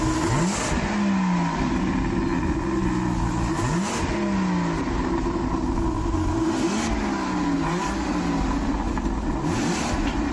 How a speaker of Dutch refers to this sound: Sluiten wij af met die V12? Doe maar.